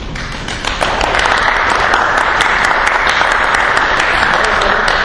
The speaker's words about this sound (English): Are you clapping for Mary Ellen?